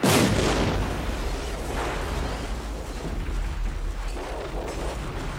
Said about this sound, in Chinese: 月黑风高杀人夜，一桩汽车爆炸案进入了警方的视野。